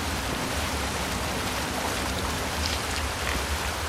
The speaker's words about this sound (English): So let's see, can we drink from the flowing water of the waterfall? No, it doesn't seem to let me.